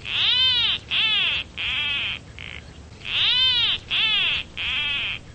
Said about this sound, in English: That's how a bird called the Peruvian plant cutter would sound coming out of your cell phone. You can now download its call and sounds from other endangered species, courtesy of the Center for Biological Diversity.